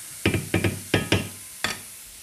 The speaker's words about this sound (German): Wir rühren die Champignons wieder um, jetzt seht ihr das. Jetzt ist kaum mehr Wasser drinnen.